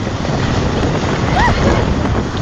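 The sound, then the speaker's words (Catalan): Strong wind buffets the microphone over the loud, continuous rush of a sea wave surging up onto the beach as the tide rises, the water dragging along the shore, the roar steady throughout with no speech. “Sí, llavors van tindre que començar a agafar les bosses corrents i sortir de, diguéssim, que de l'aigua que arrossegava l'onada.”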